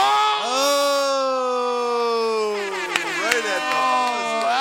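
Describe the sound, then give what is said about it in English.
A voice imitates a game show buzzer: a loud, harsh, sustained buzzy tone held for a couple of seconds, then breaking into a wavering warble with a few sharp clicks. “Buzzer.”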